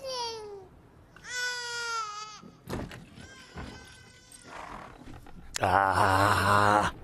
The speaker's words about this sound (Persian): بس دیگه، انقدر گریه نکن. خوبه که گریه نمی کنه. کی داره گریه میکنه؟ برو ببین چه خبره.